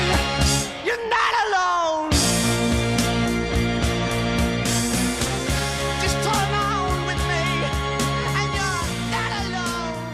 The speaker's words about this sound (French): La musique se charge progressivement en instruments. Guitare, voix, guitare électrique, batterie, cuivre, chœur.